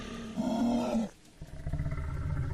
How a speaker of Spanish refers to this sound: Cuando de repente comenzaron a escuchar sonidos guturales y extraños gruñidos.